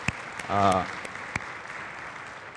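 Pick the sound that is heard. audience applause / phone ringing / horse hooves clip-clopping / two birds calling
audience applause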